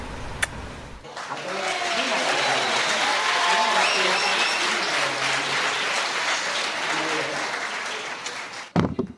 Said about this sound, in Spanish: Bueno, pues está claro que ha gustado la elección, ¿no? Con esa ovación que ha habido.